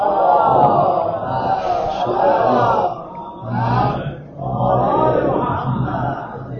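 A large audience recites the salawat blessing together in unison, dedicated to the soul of Hazrat Fatimah al-Zahra, a loud, swelling wash of many voices rising in three waves with brief dips between phrases.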